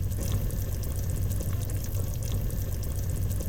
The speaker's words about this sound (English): Well, that's the voices of the chili. It's bubbling away, man.